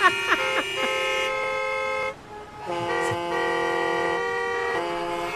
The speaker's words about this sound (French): Donc là, je vous ai posé la question, par quoi nous on pourrait remplacer ça, les fameux bruits de klaxons comme on entend ici?